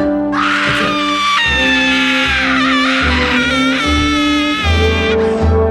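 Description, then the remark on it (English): A woman screams in a long, shrill, wavering wail that rises and bends in pitch, sustained over a short jingle for a "Campus Madness" segment, with a steady stepping bass line underneath. “That's a woman going mad on campus. Okay. Listen to the music. Listen to the screaming.”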